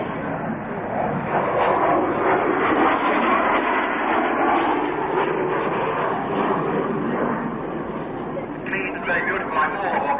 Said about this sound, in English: It was a single-seater powered by Rolls-Royce Neve engine. There must be about the only Neve engine still flying